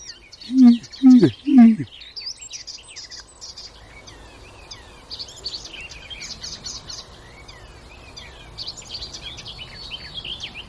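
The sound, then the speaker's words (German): A mix of birdsong from several species: varied high chirps and trills layered together, continuing throughout, after three short, loud low sounds near the start. “Ich würde sagen, das war alles so von jedem Vogel ein bisschen eben.”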